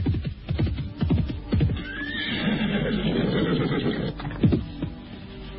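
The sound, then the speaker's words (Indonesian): A horse being ridden on a bright morning whinnies loudly in a long, wavering neigh, framed by sharp, rhythmic hoofbeats clip-clopping before and after. No one speaks. “Di pagi yang cerah itu, Prabu Jayanegara sedang berkuda ditemani Turangga, abdinya yang setia.”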